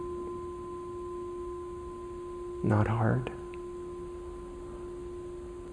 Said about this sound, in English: But I would say ring the bell at the beginning and have that be the sound of stop meditating. Okay, so at the beginning of a sitting, stop. Okay, now just don't do anything. Can you hear the sound of the bell?